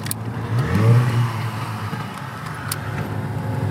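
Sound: motorboat engine running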